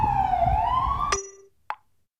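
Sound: sirens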